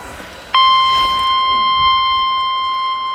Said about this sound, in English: The proceeding was a test of the National Weather Service warning alarm tone.